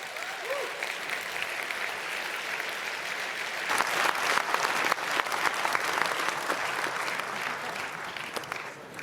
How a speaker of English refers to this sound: That was your applause.